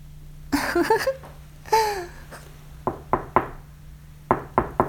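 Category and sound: household object, knocking on a door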